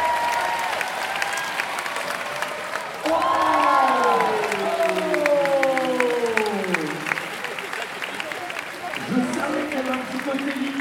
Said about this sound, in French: Alors un essai à la mayonnaise, là, on va l'applaudir s'il vous plaît, allez.